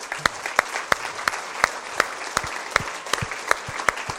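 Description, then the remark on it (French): A church audience claps in steady unison, sharp rhythmic beats about three per second over a dense wash of scattered applause, with no voices standing out, applauding the Lord. “Est-ce que nous pouvons applaudir le Seigneur?”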